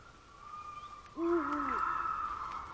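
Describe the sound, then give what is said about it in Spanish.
A single deep, wavering owl hoot rises and falls about midway through, over a steady high droning chorus of night insects in an otherwise quiet outdoor setting. “Y el uhu del búho. El búho dice su nombre cada vez que habla y dice bú, de búho.”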